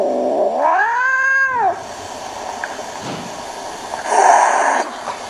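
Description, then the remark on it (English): Two cats in a standoff: a cat lets out a long, loud yowl that rises and falls in pitch, followed after a pause by a shorter, rougher caterwaul, with no talking. “It looks like a really piece of sort of classic standoff between two cats.”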